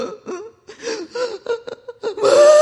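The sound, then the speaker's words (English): A voice imitates a toddler's heaving belly sob, with choppy gasping breaths in quick bursts, building to a drawn-out, strained wail at the end. Fairly loud, with no talking. “And you know, sometimes those little toddlers can just go into this belly sob. Here's where they just can't get the right.”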